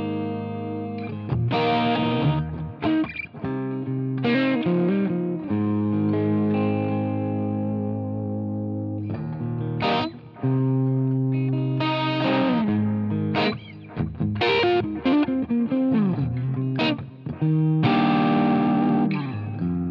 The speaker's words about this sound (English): This review will be in three parts. To start with, I'll just share a few tones of the guitar in isolation.